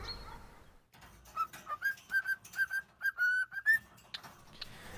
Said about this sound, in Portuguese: Não sabia que dava pra ensinar um passarinho assim a cantar. Ai, não é um passarinho qualquer. É uma calopsita. Não é fofa? Eu já tive uma calopsita, elas são muito inteligentes.